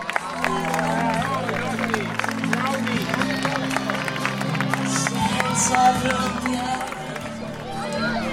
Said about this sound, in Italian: Un grande applauso.